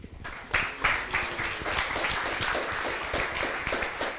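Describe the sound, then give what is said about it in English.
A crowd applauds a presentation with dense, steady clapping that swells quickly and holds at a fairly even loudness for several seconds, with scattered individual claps standing out. “First off, give them another round of applause for that that good presentation.”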